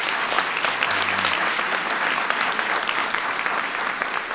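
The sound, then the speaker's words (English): A crowd applauding Oracle claps steadily for about four seconds, a dense, loud wash of hand claps with no pauses and no voices rising above it. “Give Oracle a big round of applause for that.”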